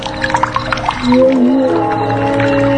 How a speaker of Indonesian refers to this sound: Sampai tiba-tiba aku mendengar suara keran. Keran air di kamar mandiku itu menyala.